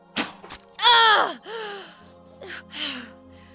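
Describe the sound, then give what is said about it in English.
An Amazon woman shot through the heart with an arrow sinks to her knees and gasps sharply in disbelief, then lets out a strained, wavering groan followed by fainter breathy moans and a last weak exhale as she dies, fairly loud, with no speech. “The Amazon sank to her knees, gasping in disbelief.”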